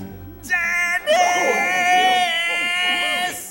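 A loud, sustained human scream of anger, high-pitched and strained, in two bursts: a short cry followed by a longer, wavering shriek lasting several seconds, with no talking.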